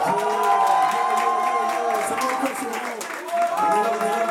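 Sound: audience cheering and applauding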